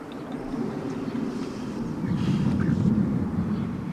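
A low, rolling rumble of thunder from a storm on the horizon fills the whole stretch, deep and steady, swelling a little louder in its second half before easing slightly; no voices are heard.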